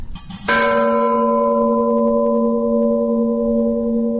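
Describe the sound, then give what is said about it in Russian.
A church bell in a bell tower is struck once plainly, as a first-time ringer would, loud, its rattling, slightly jangly tone ringing on and slowly fading over several seconds with no voices. “Если в него ударить просто, как человек впервые поднимется и ударит, скорее всего, у него получится такой дребезжащий звук.”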